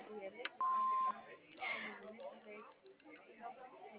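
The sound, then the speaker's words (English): A single steady electronic beep, about half a second long, sounds over telephone-quality audio, the kind an answering machine gives before recording; muffled speech-like chatter fills the rest. “Leave us a message after the beep.”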